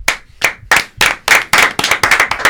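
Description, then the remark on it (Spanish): A small group of people sitting around a table claps hands, starting with a few scattered claps and quickly building into a denser, faster round of applause with no talking. “Señores, aparten un poco sus sillas de la mesa y procedemos a un aplaudimiento”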